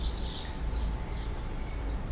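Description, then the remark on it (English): Faint birds chirp in short intermittent bursts over a steady low rumble of background noise, with no voices present. “The birds are not part of the same soundscape. I placed them there where you heard the sound of the opening window.”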